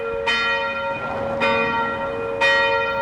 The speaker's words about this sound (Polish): Mój dom dosłownie 100-200 metrów od kościoła znajduje się i zawsze pamiętam od dzieciństwa dźwięk dzwonów kościelnych